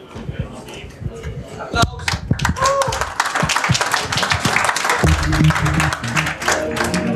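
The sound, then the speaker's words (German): An audience at the Sendezentrum of the 31C3 congress breaks into applause, a dense wash of many hands clapping that builds after a few seconds and stays loud and steady, with some crowd murmur underneath. “Applaus.”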